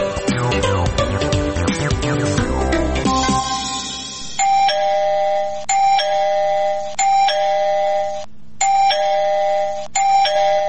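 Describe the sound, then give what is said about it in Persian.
A gate doorbell is pressed over and over early in the morning, starting with a jumbled burst of chimes and then settling into repeated bright electronic ding tones in a steady rhythm, loud and with no voices. “کیست؟ صبر کن آمدم و صبر کن که گوشی ما را کر کدی.”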